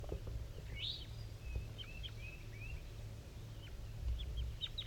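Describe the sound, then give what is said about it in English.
Very weak, soft, high chirps and short whistled notes from a wild bird at 7:50 a.m. up in the top of a dead pine, scattered irregularly over a steady low rumble, with a brief rising call near the start. “Wild bird calling.”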